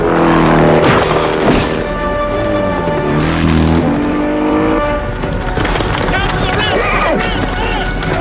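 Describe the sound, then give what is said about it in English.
A motorcycle engine revs loudly and steadily as tires skid and scrape, with rough crashing noise as Jean-Claude Van Damme slides the motorcycle into brush, chased by police on horseback, continuous, with voices mixed in underneath. “So Jean-Claude Van Damme just did a bike slide into some brush, used his hand to stop the tire from spinning”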